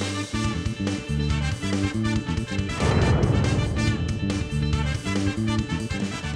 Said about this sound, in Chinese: 我们只要一挤，柠檬烯就会喷出来。而构成气球的橡胶呢，它的分子结构啊，和柠檬烯的分子结构比较相似，在化学中有一个叫相似相容的原理，所以啊，橙子皮中的柠檬烯就能够溶解一小块橡胶，达到针刺的效果，把气球给弄爆。我们来试一下。